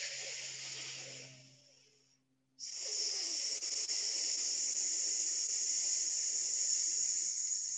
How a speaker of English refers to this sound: So as we breathe in and we draw in through that small straw, on the out breath, just inviting you to do this. On an S, and to really extend the out breath so that we're going into more parasympathetic functioning.